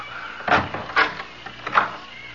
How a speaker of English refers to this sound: No, no, no. Not just this minute, please. Not till I open the door to the closet.